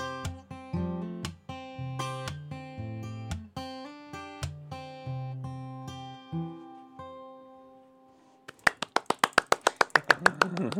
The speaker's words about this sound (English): I really liked your percussive accompaniment there. So how are you doing that? How are you getting that little slap?